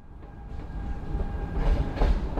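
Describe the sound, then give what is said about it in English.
A train carrying Glasgow detectives to Lancaster rumbles steadily along the rails with a heavy low-frequency roar and rhythmic clattering, a faint tonal whine running through it, continuous with no voices. “Constable Black and a contingent of his top Glasgow detectives take a train to Lancaster for a meeting of the minds with Captain Van and his officers.”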